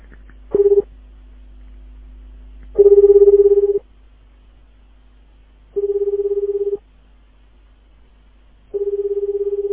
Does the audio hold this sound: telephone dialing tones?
yes